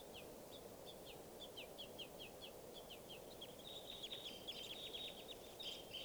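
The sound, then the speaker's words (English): Wild baby crossbills in the trees beg with rapid, high-pitched chirps and squeaks, repeating in quick bursts that grow busier and overlap toward the end, over a steady low background hiss. “And they're begging babies here.”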